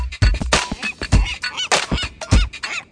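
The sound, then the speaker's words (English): A gull calls repeatedly in harsh, squawking bursts, several rapid cries over a few seconds, loud with no voices. “This is the gull that calls through the smoke that hovers over the houseboaters”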